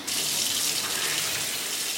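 Water gushes steadily from a tap, flooding the bathroom. It makes a loud, continuous hissing rush with a bright splashing texture that holds level throughout, with no voices.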